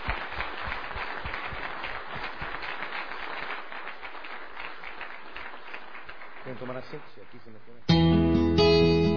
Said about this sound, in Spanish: Fuerte aplauso a la hermana, por favor.